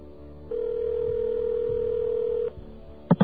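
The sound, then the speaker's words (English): A telephone ringback tone on a dialed call to the Federal Bureau of Investigation line: one steady, mid-pitched buzzing burst lasting about two seconds, then quiet, followed by two quick clicks at the end. No one speaks. “Well, it rings.”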